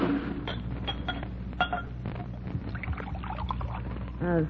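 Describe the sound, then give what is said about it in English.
A drink poured from a bottle into a glass, a few light clinks followed by a short gurgling pour that rises in pitch as it fills, over a steady low hum. “That bottle there. Huh? Pour me, will you?”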